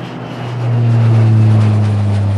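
airplane flying past

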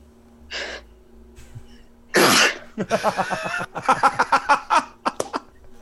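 sneeze

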